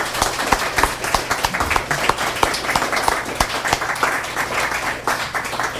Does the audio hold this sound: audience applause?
yes